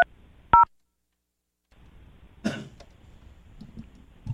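A short, clear telephone keypad tone beeps once near the start as a phone call is placed, followed by a stretch of quiet, then a brief rough cough-like burst and faint low rustling.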